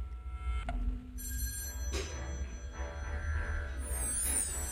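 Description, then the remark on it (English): An old-fashioned telephone bell rings in 1974 while someone is watching television, a metallic, jangling trill over a low background hum, the ringing bursts clear with no one speaking. “I was watching television, and the phone rang.”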